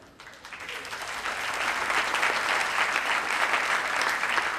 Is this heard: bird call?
no